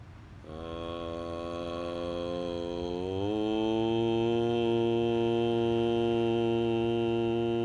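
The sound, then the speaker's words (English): Voices chant a long, steady Om once to close a day-12 meditation session, one sustained drone rising slightly in pitch partway through and holding loud and even to the end, with no other sounds around it. “Let's seal day 12. By chanting the hymn of the universe, Om.”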